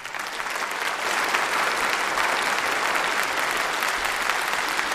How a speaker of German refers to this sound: Vielen, vielen Dank für die sehr ehrlichen Einblicke auch und auch für die zahlreichen Fragen, die ihr gestellt habt. Nochmal ein herzlicher Applaus, finde ich.